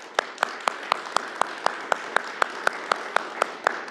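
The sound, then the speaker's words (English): Audience applause for the graduating class of 2023: a steady wash of clapping with sharp, evenly spaced claps, about four per second, standing out on top at a moderate level. “Let's give the class of 2023 a round of applause.”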